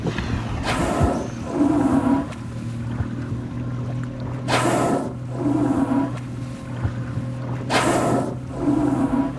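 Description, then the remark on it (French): Three loud, breathy whooshes of whales blowing, spaced a few seconds apart, as four or five whales surface around a boat between a few tens of metres and one metre away, over the steady low hum of the boat engine and lapping water, with glaciers and snowy rocky peaks behind. “À quelques dizaines de mètres de nous, on voit ces gros mammifères marins, ces baleines, qui soufflent.”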